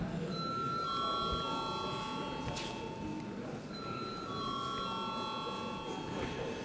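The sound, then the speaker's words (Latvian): A steady electronic bell rings in a parliament chamber before a vote on a bill, sustained chiming tones repeating in two long bursts over murmuring and faint background voices. “Paldies, lūdzu zvanu.”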